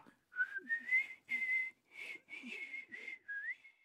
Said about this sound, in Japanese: 口笛は人がご機嫌な時に吹くやろ。 うん。 やけん口笛が聞こえてきた家にはいいことがあったに違いないって思われて、周りから嫉妬されるって。